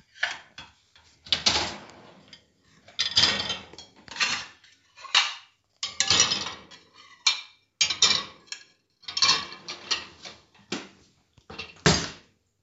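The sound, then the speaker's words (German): Dishes and cutlery clink and clatter in a series of irregular bursts, with brief pauses between, as a mother sets items into a dishwasher rack. No one speaks. “Es war die Spülmaschine und meine Mutter hat es eingeräumt.”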